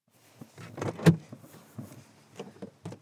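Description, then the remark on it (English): Someone climbs out of their car on arriving at an eco-community festival in Underhill: rustling and shuffling, a solid door clunk near the middle, then a few lighter knocks and movements. No one speaks. “As soon as I get out of my car, a man with a big beard walks my way.”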